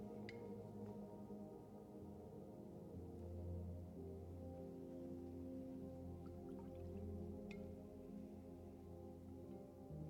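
A few faint, scattered drips of water fall over a steady low hum, with a couple of sharper drops standing out near the start and toward the end; no one speaks.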